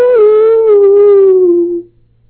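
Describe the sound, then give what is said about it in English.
A person imitates a wolf howl with a single loud, sustained vocal tone that slides slowly downward over about two seconds before cutting off, with no other sounds. “Sound more like Tarzan than a wolf.”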